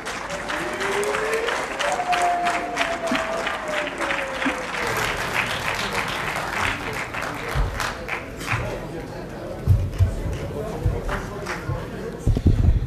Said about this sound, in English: I will now invite the Honorable Fortune Charumbira to show gratitude to the House. Shall we receive him with a hand of applause?